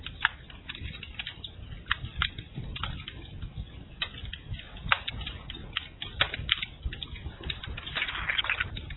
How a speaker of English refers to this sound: Oh, listen to that crackling fire. For those of you that are in the winter season, imagine the warmth. Visualize wonderful fire.